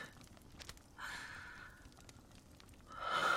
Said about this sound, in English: I'm breathing.